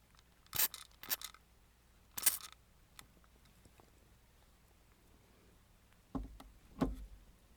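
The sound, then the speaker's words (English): Three quick, hissing spritzes from a spray bottle of rubbing alcohol, sprayed onto a cut, come close together near the start, followed by a pause and a couple of soft, dull thumps. No one speaks. “I'm gonna spray it with rubbing alcohol.”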